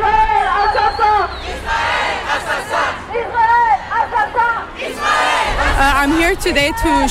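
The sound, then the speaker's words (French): A large protest crowd in solidarity with Palestine marches through the streets, shouting and chanting slogans in Arabic and French together, many voices loud, swelling in rhythmic bursts with brief dips, with no single speaker standing out above the mass. “Donc là, ça avance dans les rues et ça crie.”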